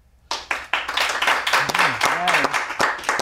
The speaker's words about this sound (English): Oh, that is five people who really know how to clap. Yeah. They really filled the room with that.